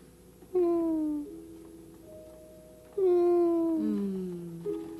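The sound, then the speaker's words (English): A voice imitates a cat, giving two long, drawn-out meows with a falling pitch, loud, separated by a short pause, with a faint steady hum underneath. “Meow, meow, meow, not meow.”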